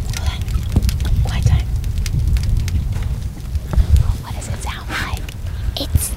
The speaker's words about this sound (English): Sounds like Rice Krispies. Yeah. Most of the scientists you talk to say it sounds like bacon frying or twigs crackling in a fire.